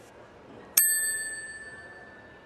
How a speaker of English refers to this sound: Hope you heard that. That's, once again, the bicycle bell.